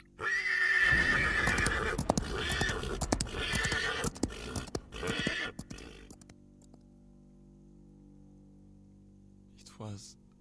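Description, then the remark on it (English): A horse neighs in distress after its rider plunges a saber into its side, a loud, shrill, wavering whinny lasting several seconds with a rough edge, then fading into a low hum with a brief faint cry near the end. “He drew the saber and plunged it into the side of his horse.”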